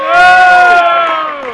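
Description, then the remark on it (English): A crowd roars and cheers together, a loud sustained swell of many voices with high whoops on top, peaking early and slowly fading over under two seconds. “Come on, let me hear your roar.”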